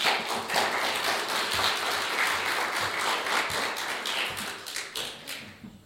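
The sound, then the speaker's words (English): A church audience applauds steadily to welcome a guest preacher from the Murfreesboro Nazarene Church as he comes up to preach, a dense wash of many hands clapping at once, holding loud for several seconds before thinning out and fading at the end. “That's the first time I ever got an applause when I came up to preach.”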